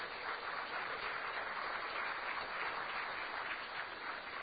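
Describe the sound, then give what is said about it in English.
A steady round of applause for the head table, many hands clapping together in a dense, even crackle that holds at a constant level for several seconds with no voices standing out. “Please, big round of applause for our head table.”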